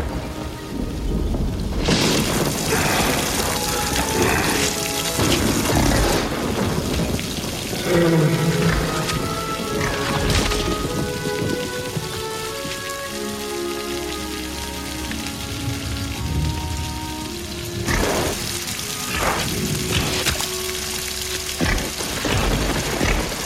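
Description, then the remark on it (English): Steady, hissing rain pours down outside a cavern for the whole stretch, with deep rumbles of thunder rolling underneath and a few louder bursts near the start and end. No one speaks. “Bruton stands outside the cavern in the rain.”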